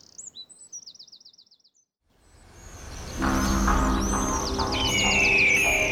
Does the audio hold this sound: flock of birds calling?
yes